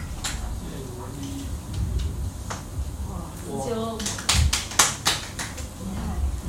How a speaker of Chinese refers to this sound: 有的人只会负责拍手了，不过还好，还会拍手。如果连拍手都不会的话，那就要考虑考虑了。